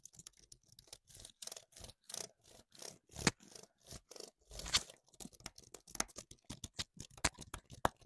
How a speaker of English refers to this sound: Okay, I found something satisfying that might work. It's clicks on a keyboard.